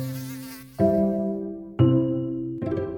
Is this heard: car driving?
no